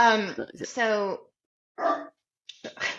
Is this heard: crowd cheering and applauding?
no